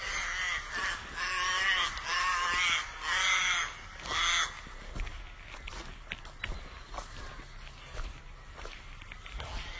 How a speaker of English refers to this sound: The crows are winning.